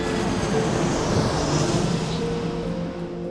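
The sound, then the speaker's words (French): A steady, loud roar of Air Force One's engines as it takes off, with a whining tonal hum, sustained throughout and fading slightly near the end. “Puis là, les avions décollent et puis tous ces bonnes gens vont aller voir ailleurs.”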